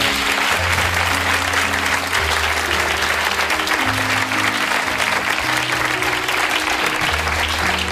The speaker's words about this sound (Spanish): A ver, un aplauso por la guitarra.